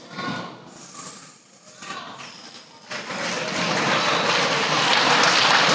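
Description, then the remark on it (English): A few seconds of indistinct voices, then an audience breaks into loud, steady applause that swells and holds as a dense, continuous patter of clapping through to the end. “I don't need no applause.”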